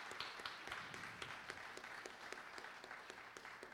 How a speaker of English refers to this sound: Clap of praise for what he's done for us.